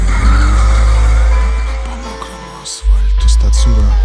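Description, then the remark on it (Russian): A loud car engine sputters and sinks lower as if about to stall, cuts out for a moment, then roars back to life with a strong rev. “нет, нет, нет, нет, только не надо, только не бросай меня. Нет, нет, только не глохни, так, так, давай, ну же, ну же, давай, ну же.”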